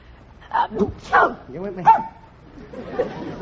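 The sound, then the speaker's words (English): A small puppy lets out four or five quick, high-pitched yips and barks. Each bark is short and sharp, and a softer rustling noise follows them. “He thinks you're barking at him.”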